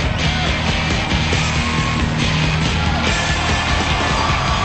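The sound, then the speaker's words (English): A crowd of teenagers screams and yells at a convention performance on a hotel stage, a dense, loud, unbroken wall of shrill cheering and whooping with a low rumble of music underneath. “A convention performance within the hotel, complete with screaming teenagers.”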